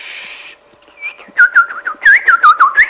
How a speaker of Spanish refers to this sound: Con el canto de los pajaritos.